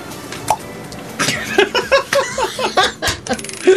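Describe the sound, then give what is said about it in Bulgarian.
Coins drop and clink several times during a magic trick, with short bright metallic hits scattered through, while people giggle and laugh in quick bursts around them. “Отново изчезва монетата тук.”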